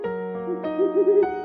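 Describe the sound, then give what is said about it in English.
An owl named Polly, returning from delivering parcels in a bad snowstorm, hoots in a low, wavering tone while four sharp taps peck at a window, spaced unevenly across the moment, over a steady humming background. “Oh yay, I hear pecking on our window.”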